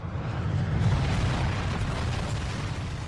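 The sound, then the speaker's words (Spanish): A huge, deep explosion roars with heavy low-end rumble, loud and sustained for the whole few seconds as if mid-blast, with no voices present. “Imagina una gran explosión. Imagina un ruido atroz.”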